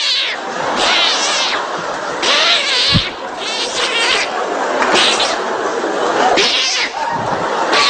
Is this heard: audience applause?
no